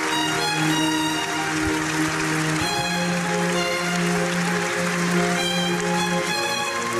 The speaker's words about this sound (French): La musique du professionnel, jouée par la garde républicaine, sous les applaudissements, vous l'entendez, des stars de ciné, des admirateurs anonymes, immense émotion. L'hommage national à la légende Bebel s'est achevé il y a quelques minutes.